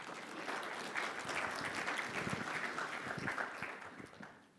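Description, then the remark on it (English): An audience applauds steadily for a few seconds to welcome a guest who has agreed to be interviewed, a dense wash of overlapping claps that holds level and then tapers off at the end. “Tim, round of applause for Tim.”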